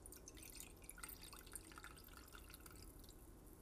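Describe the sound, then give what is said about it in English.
Thick, viscous varnish, somewhere between maple syrup and molasses, pours from a jar into a cup, a steady, quiet trickle flecked with small wet drips and glugs throughout, with no voices. “opens a jar of varnish, pouring it into a cup. The substance is viscous, somewhere between maple syrup and molasses.”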